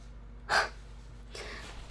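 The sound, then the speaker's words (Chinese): A dog lying under a stool snores softly: a short breathy snort, a pause, then a longer, rasping exhale, with no talking over it. “低头看，凳子下面，这是我们家狗狗。”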